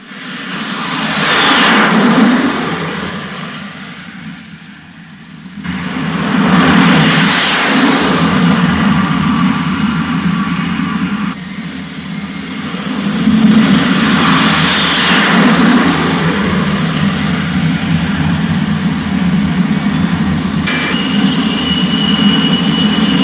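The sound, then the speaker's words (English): A loud, steady jet engine roar from inside a jet aircraft in flight as the pilot comes in to land on an aircraft carrier deck, a broad rushing drone with slow swells in pitch and intensity, no voices present. “This may be your first flight in the jet, but at this moment, even more important, it will be the pilot's first landing on a carrier deck.”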